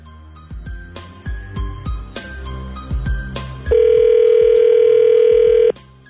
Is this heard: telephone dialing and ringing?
yes